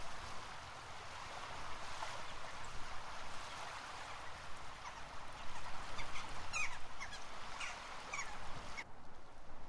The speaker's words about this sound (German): Wenn du die Augen schließt und dem Wind zuhörst, ist es wie am Meer.